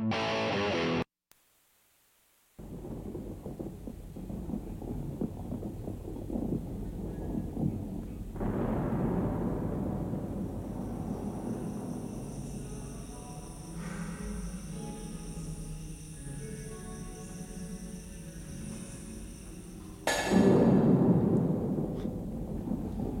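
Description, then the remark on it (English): A thunderstorm rolls on with deep, sustained rumbling thunder that swells and fades, then a louder, sharper crash breaks out near the end. “Well, it's thunder and lightning.”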